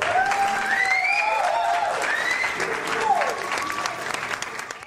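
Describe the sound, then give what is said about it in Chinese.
A crowd applauds steadily all around, a dense patter of many clapping hands, with rising whistle-like cheers sliding over it, fairly loud and sustained for about five seconds. “在这个时候，四周围响起一片掌声。”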